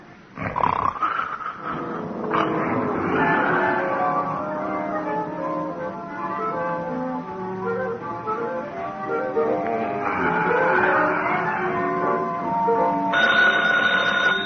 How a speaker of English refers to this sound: Yeah? Oh, phone